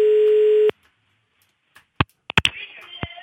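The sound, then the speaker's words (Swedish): A steady telephone ringing tone sounds loud and alone for under a second as a call is placed, then cuts off, followed by silence and a few sharp clicks and handset noises. “Vi ringer upp en kille, han har åkt iväg med sina kompisar till Bad Gastein.”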